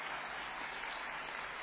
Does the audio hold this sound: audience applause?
yes